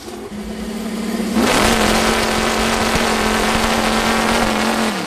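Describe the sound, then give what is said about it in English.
A V8-powered chainsaw engine idles with a low, steady drone, then surges into a loud, roaring rev that holds for several seconds, unbroken, with no talking. “What do you get when you cross a V8 engine with a chainsaw?”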